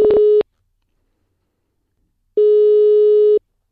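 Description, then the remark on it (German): A telephone ringback tone while calling a volunteer agency in the Halle-Saale district, Germany: a steady, clear electronic beep fades out at the start, followed after a long pause by another one-second ring tone. No voices. “Deswegen rufe ich da jetzt einfach mal an und frage nach, wo jetzt gerade denn Helfer fehlen.”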